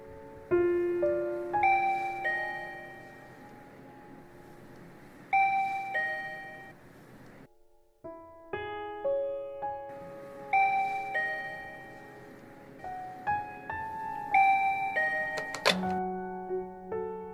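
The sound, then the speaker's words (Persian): A doorbell intercom plays a bright, melodic chime tune of many ringing notes, clear, pausing briefly before repeating the melody. No one speaks. “توی خیالم این بار وقتی آیفون رو بر می دارم یه آشنا داره شعر می خونه.”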